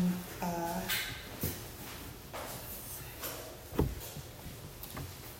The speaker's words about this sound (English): closing the door